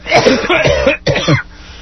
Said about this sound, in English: He and I both have small children who have given us every manner of illness going on. Listen to this. Let's just cough it out. Ready? Let's go.